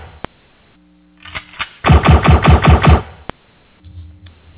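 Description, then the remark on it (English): A loud burst of rapid machine gun fire, about seven sharp evenly spaced shots in a second, with a single sharp crack before and after. No one speaks. “Oh, I didn't know whether to duck or to absorb the bullets.”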